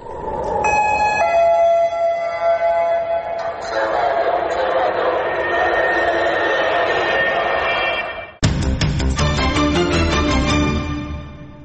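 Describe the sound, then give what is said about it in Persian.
A loud, steady rocket-attack warning siren, as heard in cities in Israel, wails continuously for about eight seconds over a noisy background, then cuts off abruptly as a different, busier sound takes over. “صدای آژیری که هر از چندگاهی در برخی شهرهای اسرائیل شنیده می شود. هشدار حمله راکتی.”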